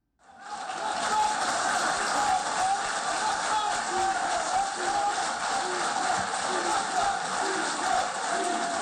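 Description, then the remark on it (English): A crowd claps steadily and continuously, a dense wash of hands with voices rising through it in loud, rhythmic chanting of "Libya, Libya, Libya" as the deputy speakers of Libya's two rival parliaments sign the National Unity Accord in the Moroccan resort town of Shkirat. “The crowd clapped and chanted, "Libya, Libya, Libya," as the deputy speakers of the country's two rival parliaments signed the National Unity Accord, then embraced and raised their arms in the air together in a gesture of solidarity.”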